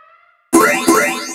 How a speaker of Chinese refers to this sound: 警报，侦测到敌方行动，请开始第一阶段。